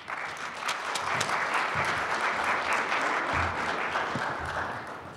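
A crowd claps steadily, a dense wash of many hands that stays fairly even in loudness for several seconds before tapering slightly at the end, with no voices standing out.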